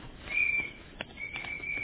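A thin, high whistle sounds twice, a short steady blast followed after a brief pause by a longer one, over a faint rustling background, with no one speaking.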